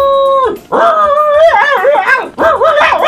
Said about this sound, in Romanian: Aveți un câine. Ia că mă, ia cățelul de aici, ți-am spus să duci câinele de aici.